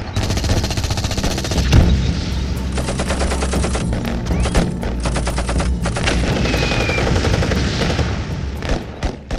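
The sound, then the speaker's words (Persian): Sustained gunfire sound effect of a battle against Iraqi forces, with Chamran firing at them from behind a hill: rapid machine-gun bursts crackle over a deep rumbling background, with scattered single shots and booms, loud and continuous throughout, no voices. “دکتر رفت پشت تپه سیسانتی و به طرفشون شلیک میکرد.”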